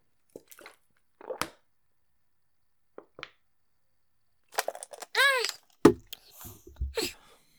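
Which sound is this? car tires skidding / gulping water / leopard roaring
gulping water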